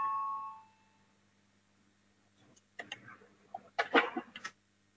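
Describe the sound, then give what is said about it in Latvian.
A short parliament voting bell rings out clearly at the start, called before deputies vote on a budget committee proposal, and fades within a second, followed after a pause by a cluster of quick clicks, taps and shuffling noises. “Lūdzu, zvanu, balsosim par otro.”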